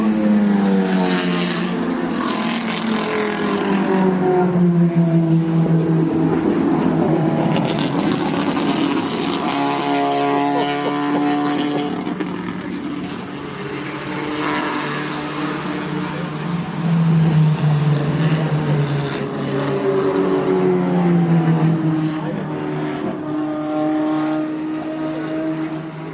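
Volvo P1800 classic racing cars roar past continuously in a race, their engines revving and whining in rising and falling pitch sweeps as they accelerate and pass, loud, with no voices.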